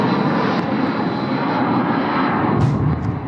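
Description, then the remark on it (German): The engine of a Shahed attack drone drones continuously overhead, loud and unbroken, with a brief whooshing swell near the end and no voices, during a night of Russian drone attacks on Kyiv, Ukraine. “Die Shahed-Drohnen sind ohne Unterbrechung nacheinander geflogen”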